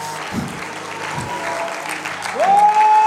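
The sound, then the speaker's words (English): A church audience claps their hands for the Lord in steady, dense applause. Near the end a sustained, rising musical note swells in over the clapping. “You know, that hand clap was a little bit louder when y'all said it was for me.”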